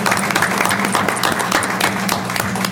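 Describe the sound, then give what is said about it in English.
A crowd claps steadily in a dense, sustained round of applause, with many overlapping hand claps at a fairly loud, even level throughout and no talking. “So we'll give him a little round of applause.”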